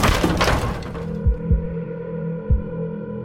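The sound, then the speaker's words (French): Firefighters force open an apartment door: a loud splintering crash at the start, then several heavy, low thuds at uneven intervals over a steady low hum, with no voices. “Les pompiers enfoncent la porte.”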